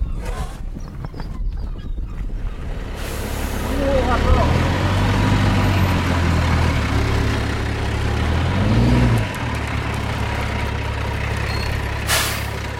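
A large truck carrying compost rumbles, its deep engine drone rising and falling as it revs for several seconds before settling back to a steady idle, with a brief hiss near the end.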